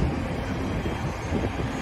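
A steady, loud roar of the turboprop engines of a Bombardier Q400 airliner at an airport, a dense low rumble with a constant hiss over it and no pauses.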